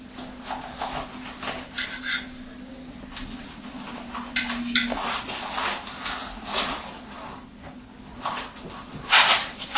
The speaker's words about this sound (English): These are ready-made vegan ham, huh? Yeah. It's very simple today. We make it simple. You cut into slices, how many slices you like, okay? Okay. Depends on how many people. Each one can have two slices, three slices.